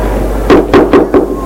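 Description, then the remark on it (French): Four firm knocks on a door in a quick, even rhythm, each a sharp hollow thud, over a low steady background hum with no one speaking. “On a frappé à la porte.”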